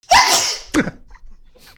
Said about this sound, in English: can I hear the sneeze, please?